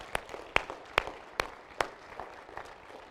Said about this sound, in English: Folks, can we give God a hand clap of praise?